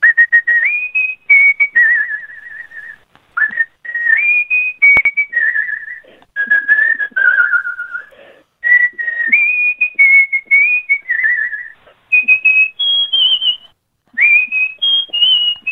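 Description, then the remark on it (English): A person whistles a pop song melody alone, clear and fairly high-pitched, with sustained notes, slight vibrato and brief pauses for breath between phrases. “The strength of your breath and the vibrato in your whistle, wow.”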